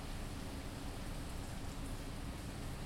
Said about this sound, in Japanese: 私ね、いつも雨を見るたび不思議に思うの。地球の雨って体に当たっても全然平気な雨なんだなって。